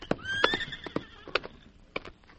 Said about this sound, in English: Whoa. There's his horse.